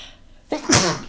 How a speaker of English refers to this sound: I'm going to sneeze, guys.